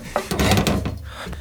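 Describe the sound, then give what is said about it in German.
A wooden cabinet door is pulled open by Justus, a short knock followed by a rough, creaking scrape of wood lasting about a second. “Justus, mach die Tür wieder auf.”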